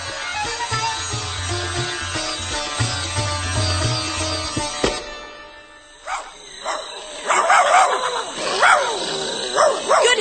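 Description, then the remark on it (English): A pack of wild dogs in the jungle breaks into high, excited yips and barks in overlapping bursts, after several seconds of droning music that cuts off midway. “Smell of the wild dog pack.”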